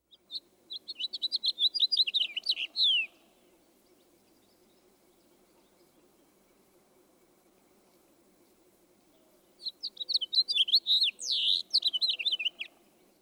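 A house finch sings two long, rambling phrases of quick warbled and buzzy notes, each lasting about three seconds, separated by a long pause over a faint low background hum.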